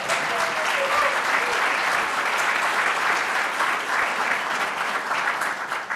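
Steady, dense applause from a large audience for a student speaker who has just introduced the Secretary of Education, Arne Duncan, a continuous wash of many hands clapping at an even loudness for several seconds, with no voices standing out.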